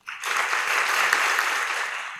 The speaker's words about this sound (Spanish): Recibamos por favor con un fuerte aplauso a Kevin McKenzie, director del British Council.